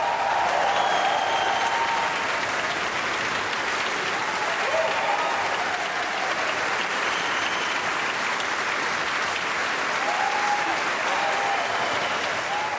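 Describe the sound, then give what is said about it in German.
Sustained, dense applause from a concert audience in the Saarbrücker Kongresshalle in Saarbrücken, steady and loud throughout, with scattered cheers and whistles rising above the clapping. “Großer Jubel und Applaus hier in der Saarbrücker Kongresshalle.”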